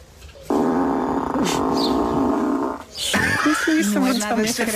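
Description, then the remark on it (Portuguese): A car's lock sound, set to a fart noise, plays as the car locks itself when the driver walks away: one long, loud, buzzy blast lasting over two seconds, followed by excited voices talking. “Basicamente ela queixa-se que o filho e o marido configuraram o carro de maneira que quando ela se afasta do carro e se tranca sozinha, ele dá um pum.”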